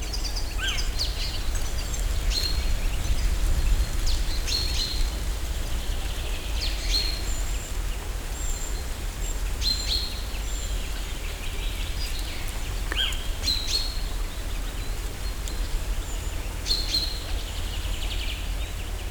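Several birds sing and call at dusk in the mountains, in scattered bursts of high, bright chirps and short phrases over a steady outdoor hiss with a low rumble underneath. Nobody speaks.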